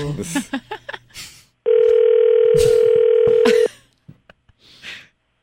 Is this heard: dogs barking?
no